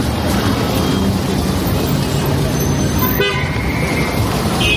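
city road traffic noise

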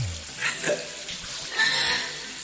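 shower water running

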